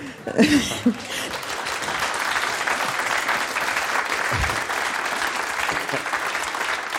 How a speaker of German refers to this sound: Ich glaube, das war den Applaus, den haben sie uns gegeben, damit wir uns kurz sammeln können.